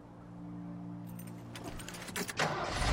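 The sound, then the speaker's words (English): A truck engine idles with a low, steady hum, then rattles and revs up with louder bursts as the truck pulls away and drives off along a road, with no talking. “She steps back from the truck. Becky drives away.”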